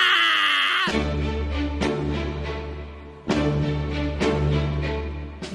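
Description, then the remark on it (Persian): A man wails loudly, a high strained cry that gives way to a dense, booming wash of sound with sharp hits recurring every second or so. “داد زدنش دیگه چیه؟ نگاش کنین، گریهش گرفته.”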